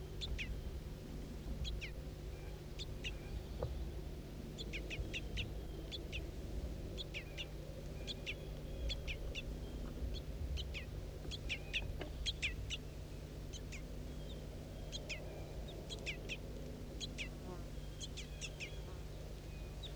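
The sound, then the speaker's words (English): Juvenile wild birds give begging calls, a steady stream of short, high, thin chirps repeating in quick irregular bursts over a constant low hum and background noise. “Start recording juvenile begging calls again.”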